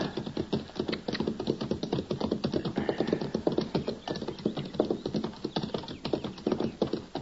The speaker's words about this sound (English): Now, that's horses down there, Chester. Yes, sir. I can see their heads now. I don't see anybody driving them.